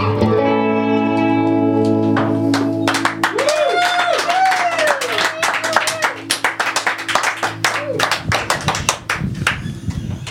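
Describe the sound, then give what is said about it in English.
A group claps in a dense, irregular patter over a steady electronic drone with warbling, swooping tones; the drone drops out near the end while the clapping carries on. “Your boy walked in right as we all clapped for you, and he went, "What, me?"”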